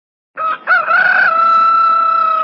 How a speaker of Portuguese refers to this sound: Que é aquilo? Ah, sim! Quem não conhece o cântico do galo?